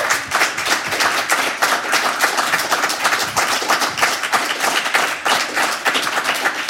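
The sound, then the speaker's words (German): Sustained applause from a crowd, a dense, steady wash of many hands clapping at a constant loudness throughout, with no voices standing out. “Langanhaltender Applaus, hat man früher mal gesagt, stand immer beim Neuen Deutschland.”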